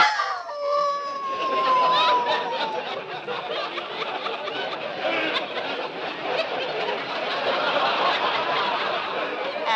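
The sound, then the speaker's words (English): A wolf from a newly arrived pack at a zoo gives a drawn-out, wavering howl that glides downward in the opening seconds, then gives way to a dense, steady wash of noisy yelping and chatter that fills the rest. “What was that? One of our wolves. We just got a new pack in today.”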